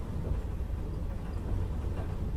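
A steady, low rumble of a train rolling along the rails, heard as a continuous droning hum from inside the carriage with no voices.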